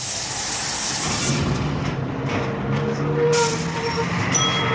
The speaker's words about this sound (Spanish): ¡Ahí viene el bus!